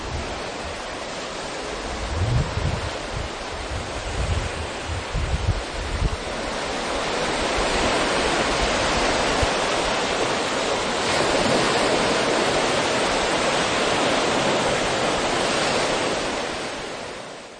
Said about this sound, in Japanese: 車の、もう5メートルぐらいのところには海の波が来ております。こんなに、近いところに車で入ることができます。渚ドライブウェイ素晴らしいですね。